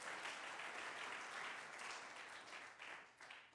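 A crowd applauds steadily, giving applause to God after a testimony, a dense wash of many hands clapping together at an even loudness throughout, with no voices standing out.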